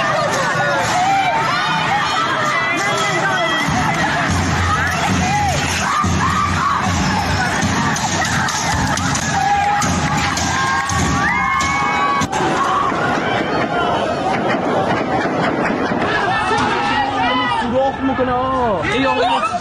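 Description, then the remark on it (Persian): A large crowd at a street protest in Iran shouts and yells continuously in the open, many voices overlapping into a loud, chaotic roar with occasional whoops and rising cries, sustained for the whole stretch. “بنابر گزارش‌های رسیده و نیز اخبار منتشر شده در شبکه‌های اجتماعی، از ظهر جمعه تظاهرات در شهرهای اهواز، آبادان، دسفول، سقز، سنندج، کرج، گوهردشت، اردبیل، مشهد، کرمان و محله‌های مختلف تهران ادامه پیدا کرد.”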